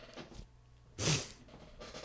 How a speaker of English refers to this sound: And if you hear nasal sniffling, I'm sick.